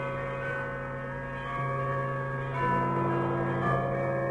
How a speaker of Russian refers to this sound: Все городские колокола зазвонили сами собой.